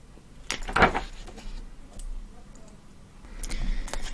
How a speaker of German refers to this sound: Genau, aber blättern wir hier bitte nur kurz vor.